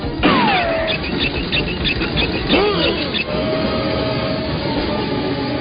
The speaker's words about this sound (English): Did you feel that? There's a train coming!